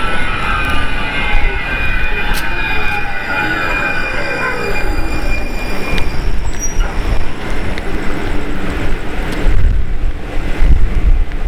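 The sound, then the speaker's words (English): A train arrives at the McGowan stop on a Sunday night, full of people, its wheels giving off high metallic squeals and whines that bend and fade as it slows, over a steady low roar and some wind buffeting. “Here comes another train at the McGowan stop as we're heading up towards McGowan Street.”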